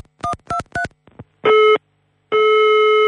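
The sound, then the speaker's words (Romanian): Three quick dialing beeps, then a telephone ringing tone sounds twice as steady buzzing tones, the second cut off, from a call to a minister's anteroom in Chișinău. Loud, as if heard through the handset, with no voices. “Am telefonat în anticamerele mai multor miniștri de la Chișinău.”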